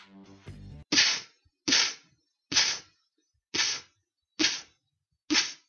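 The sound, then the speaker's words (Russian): Six sharp inward beatbox snares, each a crisp hissy burst made with the lips pressed together while sucking air in, evenly spaced about a second apart, clear, after a brief low voiced hum at the start. “Это и есть снейр на вдохе.”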